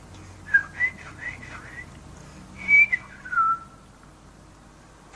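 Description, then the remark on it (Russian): Someone softly whistles a short tune in a few gliding phrases while walking along a dark path, then it fades to a quiet, low background hum. “Идя по темной тропе, тихонько насвистывал я.”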